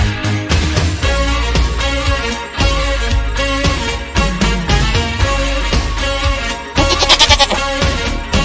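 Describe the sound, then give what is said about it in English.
Loud, repeated goat bleats with a wavering, quivering tone come one after another over a dense, steady musical backing, filling the whole stretch with no talking. “I ain't afraid of no goats.”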